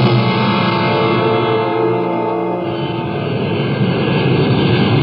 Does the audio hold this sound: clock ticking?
no